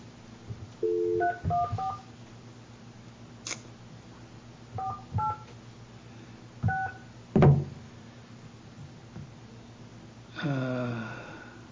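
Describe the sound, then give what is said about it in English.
Telephone keypad dialing tones as a cell phone number is dialed: short paired beeps pressed in uneven bursts, with a couple of clicks and a brief rising electronic chirp at the end, clear. “I dialed the second one is the one I dialed earlier.”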